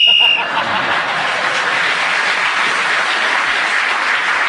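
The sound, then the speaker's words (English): A brief, high-pitched whistle blast ends a round of a panel game as Clement Freud is speaking, then gives way to steady, sustained applause from an audience that continues evenly to the end. “Clement Freud was then speaking as the whistle went, and he's gained an extra point for doing so.”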